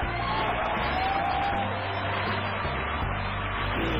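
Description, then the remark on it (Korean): A crowd of children cheers and claps nonstop, a dense, loud wash of excited voices and scattered whoops mixed with steady applause for the full few seconds. “여러분 지금 아이들이 보세요. 막 환호성을 지르고 박수 치고”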